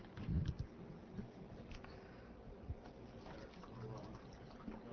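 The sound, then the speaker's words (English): Water is poured into a container with a steady, faint splashing trickle lasting several seconds, a soft thump near the start, and some muffled background noise. “I'm gonna need more water in this thing.”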